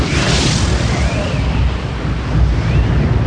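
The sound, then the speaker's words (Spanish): Heavy bombing explosions from the US-led coalition's bombing of Iraq in Operation Desert Storm, 1991, roll together into a dense, continuous roar with deep booming rumble underneath, loud from start to finish, with no voices. “Como nunca lo hicieron, una coalición internacional liderada por Estados Unidos y su presidente George Bush inició el bombardeo de Irak en la llamada Operación Tormenta del Desierto.”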